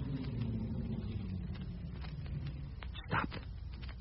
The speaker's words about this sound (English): Hold it. Car coming in.